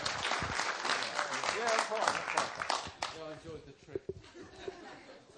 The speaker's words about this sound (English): Keep the applause going, people. Keep the applause going. And there is nothing here to see yet. Keep the applause going.